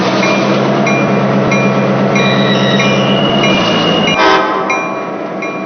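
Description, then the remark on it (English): A train rumbles steadily with thin, high metallic squeals of braking wheels as it is brought to a stop, then a brief burst of hissing air as the heavy noise drops away and settles into a quieter idle. “me know where you want me to bring her to a stop. Stop her up here”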